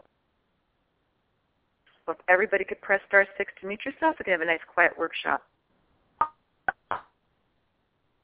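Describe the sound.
A person talks over a conference call phone line during a workshop, then three short, sharp clanks follow in quick irregular succession, like someone banging things around in a kitchen.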